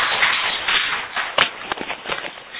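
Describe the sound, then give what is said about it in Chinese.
An audience claps together in a dense, steady burst of applause at the end of a told story, with a few sharper individual claps standing out as it tapers slightly toward the end. “咱最后请西山来拍手哈。”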